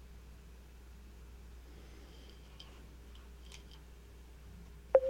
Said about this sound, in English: Oh, my God. Your thing is beeping again. Make it stop.